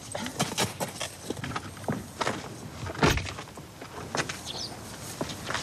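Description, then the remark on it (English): Footsteps crunch with sharp clicks and a solid thunk as a key unlocks and opens a green door in a garden wall, then steady walking continues into a walled garden, with faint birdsong in the background. “We just went through a kind of a green door in the middle of a wall.”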